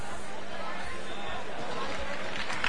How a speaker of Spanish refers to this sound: Ahí está el aplauso de la gente de La Plata y de aquellas personas que se han congregado aquí para ver salir a la cofradía.